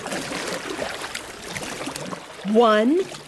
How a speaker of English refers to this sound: Ready? 1, 2, 3, push! Whoa! Look, Reader! We're doing it! We're pushing the boat across the Nile together! Keep moving quickly and we'll be across in no time.